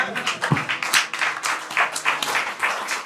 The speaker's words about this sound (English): Well, clap it up for that shitty segment.